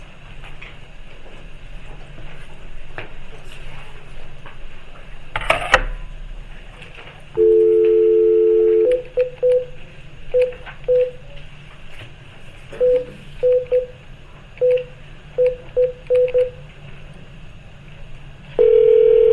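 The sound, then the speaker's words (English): At a board meeting, a steady telephone dial tone comes on, then a rapid sequence of short touch-tone beeps as a number is keyed in to add a member by phone, followed by the dial tone returning, all against a faint background. “She's going to be added in telephonically here.”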